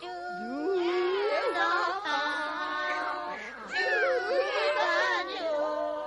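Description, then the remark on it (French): Several cats in a farm kitchen caterwauling together as they try to sing, their wavering, clashing howls out of tune, some too high and some too low, in two long, loud bursts separated by a brief pause. “On entendit alors une horrible cacophonie. Aucun chat ne chantait juste.”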